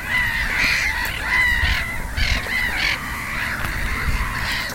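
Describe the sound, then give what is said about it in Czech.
Black-headed gulls call repeatedly in a flock, harsh squawking cries overlapping over a steady low rumble of wind or water. “No, mohou to být různé druhy, protože vidíme tady racky chechtavé a racky bělohlavé.”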